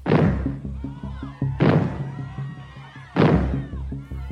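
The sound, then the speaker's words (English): Three loud, heavy bangs go off about a second and a half apart, a warning signal in England for the arrival of nuclear fallout, each a sharp booming thud that trails into a lingering low rumble before the next one hits. “In England, the arrival of fallout was heralded by a signal made of three loud bangs.”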